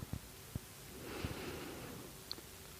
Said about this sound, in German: Und nun atmen wir in den linken Lungenflügel.